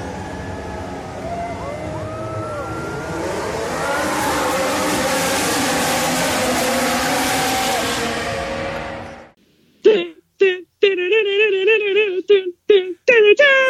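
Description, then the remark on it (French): A voice imitates roaring race-car engines with a rushing, sliding drone for several seconds, then breaks into short, choppy sung notes of the Formula 1 theme melody, loud. “Alors, oui, on va revenir avec cette belle interprétation du thème de la Formule 1 sur le Grand Prix du Brésil”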